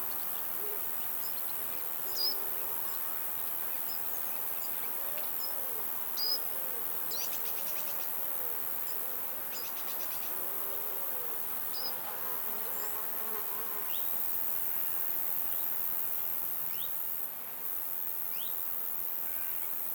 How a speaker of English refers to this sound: to tune in at ear level to the singing of insects and the breeze against the grass flowers